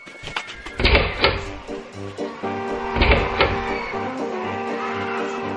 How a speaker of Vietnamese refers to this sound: Vẫn bị theo riết, bí quá, tôi tông cửa vào các phòng học, chạy vào. Phòng này thông qua phòng kia. Khi ra khỏi mỗi phòng, tôi không quên sập cửa lại rầm rầm để cản bước quân thù.